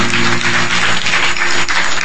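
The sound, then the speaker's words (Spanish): Steady, loud applause from an audience giving a hand to the Lord after a prayer: a dense wash of many hands clapping at once, continuous for the whole stretch with no voices standing out. “Wow, denle un aplauso al Señor.”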